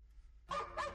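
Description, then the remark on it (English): A dog barks twice in quick succession, fairly loud, each bark sharp with a bright, harmonic tone, after a moment of near silence with a low background hum. “He's calling for your help. Our dog guides help people with sight, hearing, and medical or physical disabilities.”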